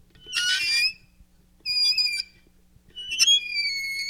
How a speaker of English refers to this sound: So the first one I'll demonstrate is a little black box with a handle on top that makes the sound of a squeaking door, like for a haunted house.